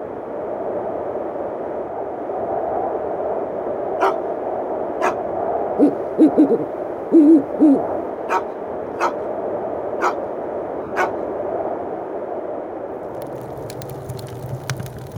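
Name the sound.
owl hooting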